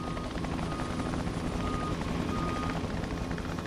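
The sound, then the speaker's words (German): A helicopter transporting patients to other regions of France during the Corona crisis drones steadily throughout, its rotor beating in a fast, even thump over a dense engine roar. The sound stays loud, with no one speaking. “In der Corona-Krise mussten Patienten mit dem Schnellzug oder dem Hubschrauber in andere Regionen gebracht und dort versorgt werden.”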